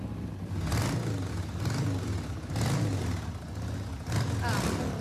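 motorcycle engine revving

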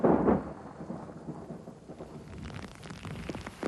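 thunder

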